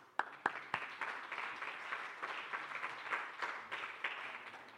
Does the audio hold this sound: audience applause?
yes